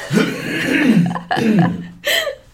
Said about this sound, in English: Hold on. Let me clear my throat and say this again.